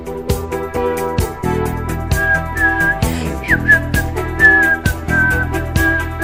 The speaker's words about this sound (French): Elle est tellement contente d'être là qu'elle siffle, écoutez-moi ça.